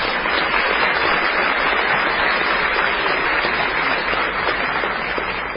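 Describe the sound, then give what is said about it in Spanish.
A crowd applauds steadily for several seconds, a dense, even wash of clapping that holds its loudness throughout and tapers only slightly at the very end. “Mientras tanto, lo aplaudimos.”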